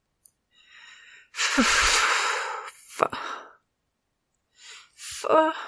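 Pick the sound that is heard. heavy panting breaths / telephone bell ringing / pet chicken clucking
heavy panting breaths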